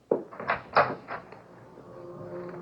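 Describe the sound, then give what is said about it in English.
A door is opened: several quick clunks and rattles of the latch and handle, then a long, low creak as it swings, with no one speaking. “Just outside the door.”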